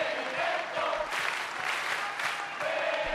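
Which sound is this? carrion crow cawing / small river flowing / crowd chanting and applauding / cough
crowd chanting and applauding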